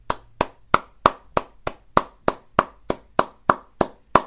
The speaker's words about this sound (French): je crois que je lui dois bien un applaudissement pour cette performance.